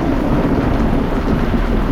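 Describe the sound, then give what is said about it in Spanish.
A loud, steady roar of a night storm at sea, with lightning and giant waves around a rocking ship, a dense rain-like hiss over a deep continuous rumble, unbroken for the whole moment and with no voices. “De vez en cuando un relámpago lo iluminaba todo y nos descubríamos rodeados de olas gigantescas.”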